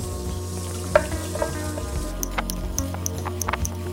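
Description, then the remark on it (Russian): Potatoes fry steadily in a hot pan, sizzling with scattered crackles and pops and occasional scraping or stirring sounds, moderately loud, no voices. “Она поджарится немножко.”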